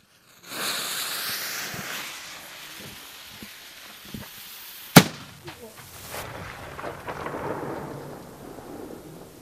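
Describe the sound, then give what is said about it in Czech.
A single loud, sharp blast from an old hook gun, loaded with black powder and lit by a fuse, cracks out midway, then rolls away in a long echo over a noisy outdoor background with faint crowd murmur. “Slyšeli jste tu ozvěnu a to byla jenom hákovnice.”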